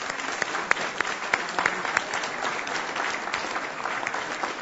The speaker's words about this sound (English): I would like to applaud.